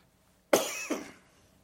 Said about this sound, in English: Boy, I'm having a coughing spell this morning.